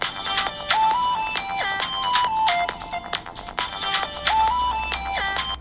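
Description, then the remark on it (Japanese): A phone ringtone for an incoming call plays on a phone with its lock screen on, a bright, repeating electronic melody with quick stepping notes, steady and fairly loud throughout, with no one speaking over it. “呼び出し始めました。小さくなりました。”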